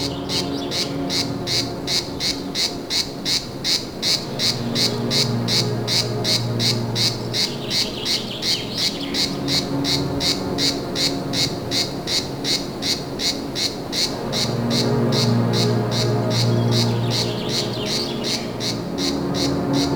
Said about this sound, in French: Une cigale dans le Médoc.